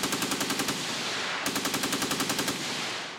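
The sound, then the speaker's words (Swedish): Two sustained bursts of rapid fire from Maxim machine guns with rotating barrels, firing on counterattacking Herero warriors in a colonial war, each a fast, even stream of sharp shots rattling loudly, with no voices. “Och i den traditionella koloniala krigsföringens tecken blev de krigare som sprang till motattack mötta av de roterande piperna på The Maxim Guns.”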